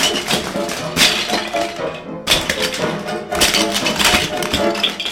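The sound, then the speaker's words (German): A large Lego palace crashes apart and scatters, a dense clatter of many small plastic pieces tumbling in several loud surges over a few seconds. “Hey, wer hat zerbrochen mein Palat? Mein ganzer riesiger Palat.”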